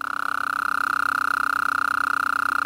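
A Gulf Coast toad calls with a loud, steady, rapidly pulsed trill at one even mid pitch, droning on without a break for the whole clip with no voices.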